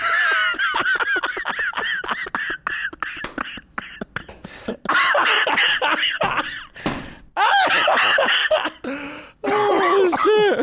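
A run of rapid, breathy laughter gives way to several harsh, loud coughs in close succession, with no talking, ending in a strained, wheezy coughing burst.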